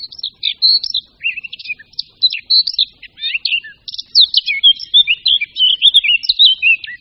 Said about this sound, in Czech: Ale přesto, zejména pro nás, zpěv pěnice černohlavé je asi ten nejkrásnější. Proto byla také pěnice černohlavá v době, kdy ještě rádio nahrazovala v domácnosti klec s chovaným ptákem, jedním z často chovaných druhů.